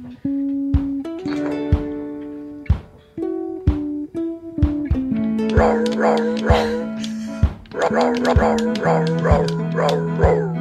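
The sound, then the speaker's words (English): A toy dog guitar plays a tune made of pitched, synthetic barking notes, each yap landing on a different pitch in a bouncy melody, loud with no talking. “He did play on the dog guitar the other day.”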